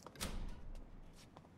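The front door at the entrance of a building is opened: a short rushing clunk at the start, then a few soft clicks and knocks as it swings, with no voices.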